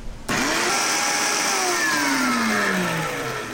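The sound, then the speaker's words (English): A blender starts abruptly and runs loud and steady, pureeing seeded fruit with a splash of water, its motor whine shifting in pitch as the blades churn through the mixture, with no talking over it. “All right, so we've got these nice and seeded, and we're going to puree this.”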